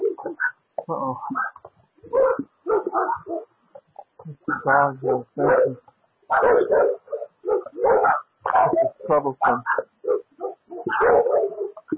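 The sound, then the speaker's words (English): A dog barks and whimpers in a steady run of short, uneven bursts, with a person briefly speaking partway through. “That dog.”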